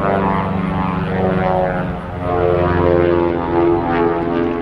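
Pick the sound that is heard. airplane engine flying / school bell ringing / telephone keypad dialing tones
airplane engine flying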